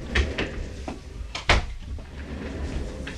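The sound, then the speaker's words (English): A door being shut: a few light knocks and rattles of handling, then one firm thud about halfway through, followed by quiet room noise with no voices. “So I'm going to close my door because my screaming kid just showed up.”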